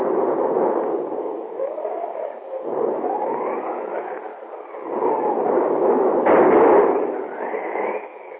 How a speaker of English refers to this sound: Outside, a thunderstorm is raging.